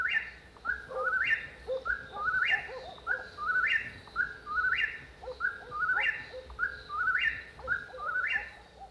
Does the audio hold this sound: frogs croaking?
no